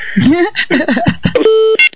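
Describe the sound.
A person talks briefly, then a phone gives a steady electronic beep followed by a second short beep, both clear, signaling an incoming call.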